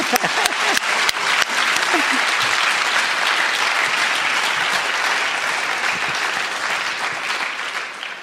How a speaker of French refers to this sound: On peut l'applaudir.